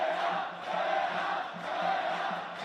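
A large stadium crowd at Vallecas chants "fuera, fuera" in steady rhythm during a football match after a yellow card, a dense roar of many voices rising and falling in waves, loud and continuous.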